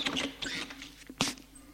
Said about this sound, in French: La porte s'ouvre.